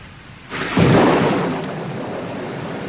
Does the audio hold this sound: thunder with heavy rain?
yes